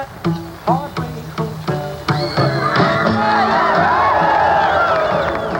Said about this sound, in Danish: Også i forhold til det der med, at pigerne skreg, ja.